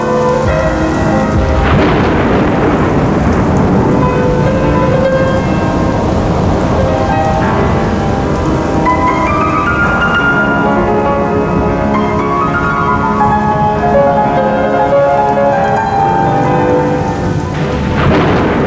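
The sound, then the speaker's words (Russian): A thunderstorm with heavy, steady rain and deep rolling thunder rumbling throughout, loud, while sustained melodic tones improvised along with the storm drift over the downpour, recorded on an old tape recorder. “Вот да-да, я принялся играть под грозу, импровизировать.”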